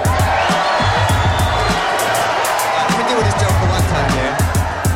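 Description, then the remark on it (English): A loud, steady roar of home crowd noise with cheering and whoops, dense babble throughout, and sharp, repeated low thumps punctuating the din. “See a little love for the home crowd, yeah?”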